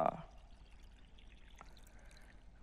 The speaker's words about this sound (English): So Jesus, after some talk with the mother, told the servants, fill the jars with water to the brim. Fill the water.